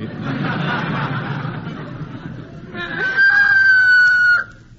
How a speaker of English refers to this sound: How come that rooster's crowing at this time of day, Wally?